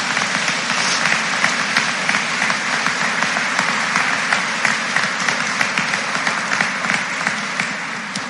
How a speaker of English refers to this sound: Let's give these Fort Recovery Community Foundation scholarship winners a round of applause.